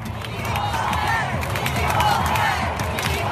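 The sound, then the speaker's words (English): A huge stadium crowd of soccer fans roars and chants "equal pay" together, a dense, steady wall of many voices with rising and falling sung tones and scattered shouts, loud throughout, as the US team secures the win. “That's right, those fans are chanting equal pay at a soccer game.”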